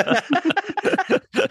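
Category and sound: human body sound, choking cough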